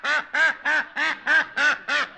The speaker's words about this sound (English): What is all the commotion? Oh, it's that darn duck again.